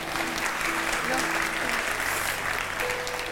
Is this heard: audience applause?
yes